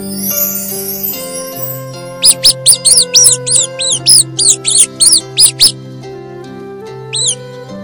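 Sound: mouse squeaking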